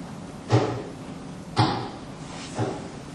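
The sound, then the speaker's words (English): Three heavy thuds of stones dropped on pavement land one after another about a second apart, each a short, dull impact with a low body and a brief scraping tail, the last one slightly softer. “One by one, you heard the thud as those stones dropped on the pavement.”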